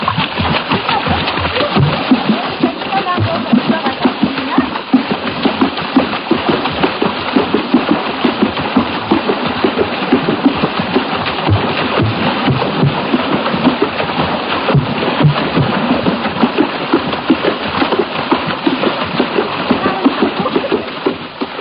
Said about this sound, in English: If some of that sound seemed to resemble splashing water, that's exactly what it was. This was African water music, not to be confused with a suite of the same name by George Frederick Handel. This music is uniquely of the Gabun area